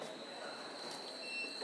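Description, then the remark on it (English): A train departing from a station platform rumbles steadily along the rails with a high, sustained squeal of wheels running through it, continuous, with no voices present. “Bet we're just missing a Richmond train, but that's life.”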